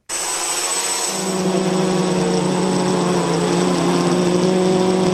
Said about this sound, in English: Here's a little drone sound for you.